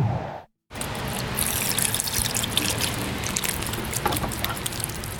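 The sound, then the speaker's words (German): Water pours steadily from a watering can in a continuous splashing trickle that runs almost five seconds after a brief moment of silence, with no voices. “Wer einen Balkon hat, der muss bei der momentanen Hitze oft gießen.”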